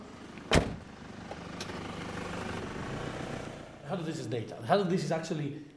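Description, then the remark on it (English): A sharp door thud, then the steady low rumble of a taxi cab driving along, with voices starting to talk over the engine noise toward the end. “There is another option, which will take just 6 minutes, and I'm in a real hurry, so I'm going to grab a cab.”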